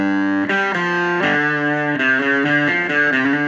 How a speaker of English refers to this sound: A little bit of fuzz from the Buzz Tone here.